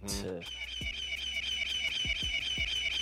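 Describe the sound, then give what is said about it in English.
A loud, shrill eagle screech sound effect rings out, sustained for a few seconds after a sharp opening burst, with deep thuds dropping in underneath at irregular intervals. “The bombs drop. The eagles wake up out they fucking eagle beds.”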